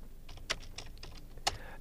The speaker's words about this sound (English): And you can hear me typing every single song into the YouTube because we don't have Spotify anymore.